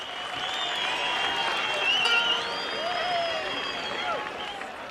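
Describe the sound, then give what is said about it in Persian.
A crowd applauds steadily for several seconds after local performances, the dense clapping mixed with a lively hubbub of overlapping voices and a few high whoops, staying loud and even throughout. “خب این همهمه، این هیجان هست به افتخار خودتون با این روحیه هنریتون.”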